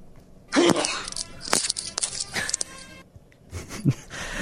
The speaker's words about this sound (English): It sounds like someone's getting... tackled by Danny Trevathan. I held that sneeze really, in for so long. It was a sneeze. Yes. It's a manly sneeze right there.